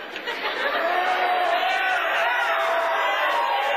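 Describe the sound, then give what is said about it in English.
A large crowd cheers and chatters in a steady, dense roar that holds at an even, fairly loud level for about four seconds, with scattered whoops and voices mixed in. “I don't know if this is a drive-in crowd or not.”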